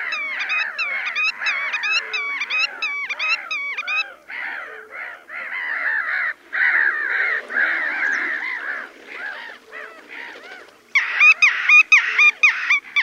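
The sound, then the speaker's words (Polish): A black-tailed godwit's territorial call in display flight: a long, fairly slow series of repeated nasal, rising-and-falling syllables, loud and continuing steadily, with a brighter burst of similar notes near the end. No speech. “A teraz słychać zdecydowanie wolniejszy głos terytorialny rycyka, wydawany w locie tokowym.”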